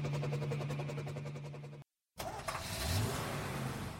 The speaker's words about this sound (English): This is a school bus. It takes the children to school.